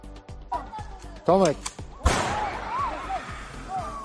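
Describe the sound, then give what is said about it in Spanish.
Several sharp cracks of gunshots fired into the air ring out, one especially loud midway, amid shouting voices and commotion outdoors at the Belarusian border with Poland, as migrants are turned back. “Al grito de alejaos y con tiros al aire, son recibidos de nuevo en la frontera bielorrusa.”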